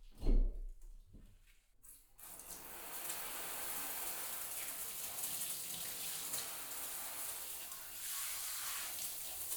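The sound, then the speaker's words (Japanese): A couple of soft thuds, then a steady, hissing rush of running water that continues evenly to the end, rinsing body-soap foam off in a bath. “ちょっと泡流すね。”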